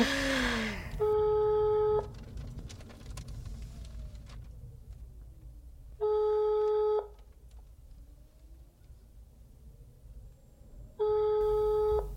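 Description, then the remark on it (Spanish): A phone ringback tone from a call placed via Siri to Pedro Piqueras's mobile, made from inside a car, sounds three times, each steady tone lasting about a second and spaced roughly five seconds apart, over a low rumbling background with no one speaking. “Oye, Siri, llama a Pedro Piqueras. ¡Hombre, Pedro! Llamando a Pedro Piqueras móvil.”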